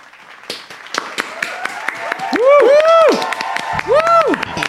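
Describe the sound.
A small group applauds with loose, uneven claps for several seconds, while voices whoop and cheer over them in rising and falling tones.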